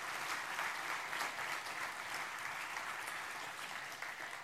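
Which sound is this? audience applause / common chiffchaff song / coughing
audience applause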